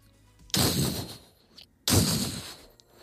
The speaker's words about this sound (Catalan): Això són els passos. No, i trepitja fort.